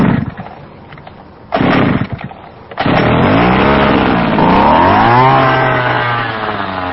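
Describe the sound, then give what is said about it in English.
Joe Humke's powerful insecticide sprayer machine, used by a Miami-Dade County mosquito control inspector hunting mosquito larvae, sputters in short bursts, then its engine roars to life, revving up in pitch and settling into a loud, steady mechanical drone with no talking. “Joe Humke's insecticide sprayer is a powerful machine. It has to be.”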